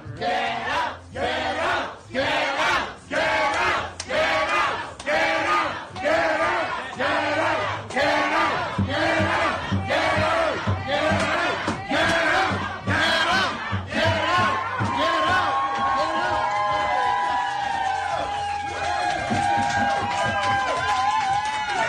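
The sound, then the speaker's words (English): A crowd of diners in a restaurant shouts "Get out" together at police officers over and over in a steady, pounding rhythm, loud and insistent, with the chanting blurring into a continuous roar of voices toward the end. “They just shouted, "Get out."”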